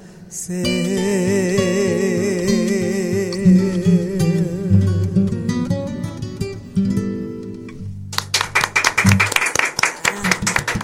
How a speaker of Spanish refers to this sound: Ahora sí, ese aplauso. Ahora sí, ¿verdad? Sí, salió con más ganas.